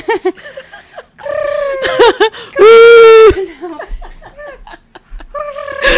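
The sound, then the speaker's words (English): A person's voice imitates an owl call: a few short, wavering hoots, then one long, loud, steady hoo, followed by softer breathy vocal noises and a final brief hoot. “I don't know if I hope listeners could hear that sound, but do you want to give any give a do you want to imitate it?”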